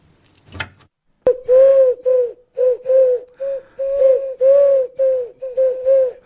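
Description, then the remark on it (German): A pigeon coos in a steady series of soft, throaty, rolling phrases, each a few beats long with short pauses between, preceded by a brief clatter. “Huhu, ich bin die Taube vom Kopernikusplatz.”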